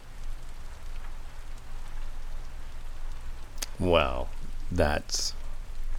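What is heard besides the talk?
rain falling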